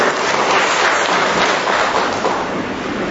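A large crowd claps steadily, a dense, loud wash of applause from many hands in thanks to God and to the laborers, filling the whole stretch without letup and fading only slightly near the end.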